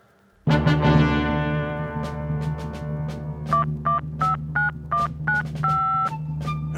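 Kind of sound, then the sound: signal or alarm, touch-tone telephone dialing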